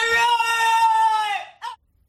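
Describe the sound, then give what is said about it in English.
A French bulldog named Walter lets out a long, strained, high-pitched scream-like whine lasting over a second, then a short sharp yelp, loud with no one talking. “Walter may be a boy, but he's definitely the scream queen.”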